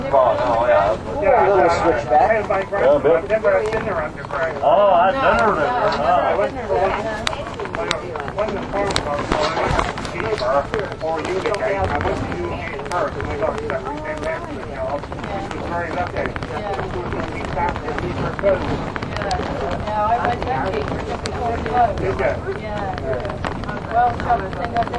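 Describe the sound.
A boat engine drones steadily outdoors for the whole stretch, with gusty wind buffeting the microphone and muffled voices mixed into the constant rumble.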